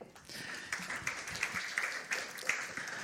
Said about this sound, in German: Herzlichen Applaus.